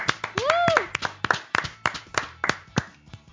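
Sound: audience applause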